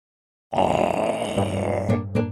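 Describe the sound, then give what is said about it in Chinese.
After a moment of silence, the loud, deep roar of a big, fierce monster bursts in and rumbles on for about two seconds with a gritty, growling texture, ending in two harsh surges. No one speaks. “吼叫声再度响起，艾玛已有心理准备。 那是怪兽吗？”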